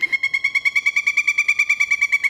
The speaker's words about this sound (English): That, of course, was the pileated woodpecker. That's the big one. That's the sound. That's the sound.